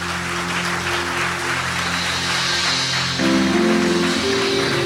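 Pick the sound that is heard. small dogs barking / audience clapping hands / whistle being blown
audience clapping hands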